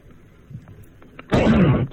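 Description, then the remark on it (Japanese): After a quiet stretch with faint background noise, a single loud, rough throat clearing bursts in, lasting about half a second. “あ、あれ、 じゃあ今の咳払いで終わり。”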